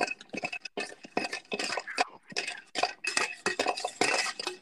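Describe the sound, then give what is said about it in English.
A bar spoon stirs ice in a mixing glass, 10 to 20 stirs, for a whiskey cocktail with orange bitters, producing a steady run of rapid, bright clinks and rattles that continue for several seconds, fairly loud, with no talking. “Take the ice out of your chilling glass and dump it in there into the container and give your 10 to 20 stirs.”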